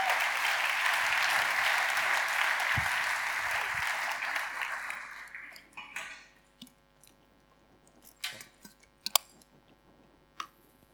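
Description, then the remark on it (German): An audience applauds in a dense, steady burst for about five seconds, then the clapping fades out into a few scattered individual claps and small clicks. “Gebt denen auch nochmal einen riesen Applaus.”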